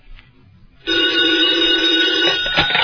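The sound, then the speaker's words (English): A telephone bell rings loudly and continuously, a bright metallic ring starting abruptly after a brief quiet moment and sustaining, with no one talking. “Oh, if the phone rings, I'll answer it because it'll be for me.”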